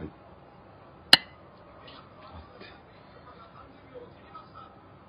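A single bright clink of glasses touching in a toast, sharp, ringing briefly over a low murmur of background chatter.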